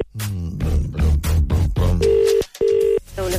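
A voice talks briefly, then a steady ringback tone of an outgoing Today FM call to a pharmacy sounds on the line as two short, even bursts with a brief gap between them, clear and fairly loud.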